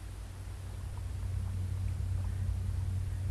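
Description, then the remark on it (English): A submarine's starboard engine runs ahead with a steady, deep mechanical drone and a low throbbing hum, continuous, under a wash of faint hiss with no voices. “Starboard motor turning, Herr Captain.”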